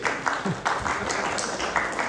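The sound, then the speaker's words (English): A crowd applauds steadily, a dense wash of many hands clapping at once, fairly loud and sustained throughout with slight swells, with no voices standing out. “Just hold up your applause.”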